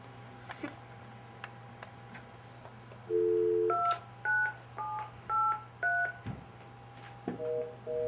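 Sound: telephone keypad dialing tones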